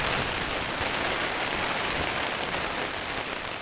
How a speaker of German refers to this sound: Ich mal, dass es nur ein Gewitterschauer ist, der bald vorbei ist, aber das weiß man nie am Yukon.